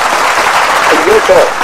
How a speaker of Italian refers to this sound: Hai sentito l'applauso? Scusa, l'ho sentito al telefono, è sembrato tipo qualcuno che mi urlava nell'orecchio. No, era un applauso.